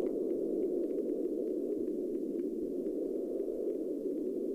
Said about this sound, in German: Ich glaube, ich hatte Pink Noise.